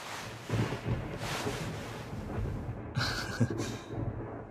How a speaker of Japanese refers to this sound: そう、まあ少しずつ雷も遠のいているから平気かな。